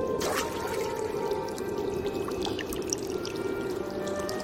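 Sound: spring water flowing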